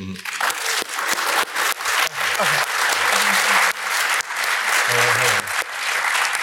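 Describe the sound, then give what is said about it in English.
A crowd applauds loudly and steadily, a dense wash of clapping that fills the whole stretch, with a few faint voices mixed underneath; the audience is applauding to vote, by loudness, on whether video game movies have gotten good. “By a round of applause, and we'll vote on loudness, do we think that video game movies have gotten good?”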